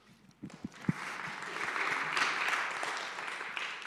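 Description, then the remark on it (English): An audience breaks into applause for itself, for changing 16 children's lives through a partnership with Compassion. It starts with a few scattered claps that quickly build into a steady, dense round of clapping, which carries on at an even level without any talking. “You've changed 16 children's lives through your partnership with Compassion, which I think is absolutely incredible, and you should probably give yourselves a round of applause for that.”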